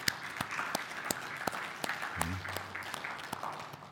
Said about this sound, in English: A round of applause for all of them.